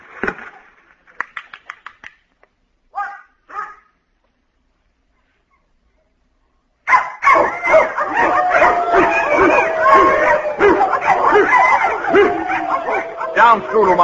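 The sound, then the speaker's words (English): A few short yips and whines, then a pause, then a loud, frantic chorus of many dogs barking and yelping at once, continuing nonstop until the end, as the dogs react to a record of sound at 40,000 cycles. “They get too emotional.”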